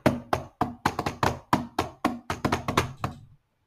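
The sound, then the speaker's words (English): Hands drum a quick, uneven rhythm on a computer, about a dozen solid knocks and taps in three seconds, then silence. No one speaks. “I was just playing drums on the computer and then the door made a noise and it fit.”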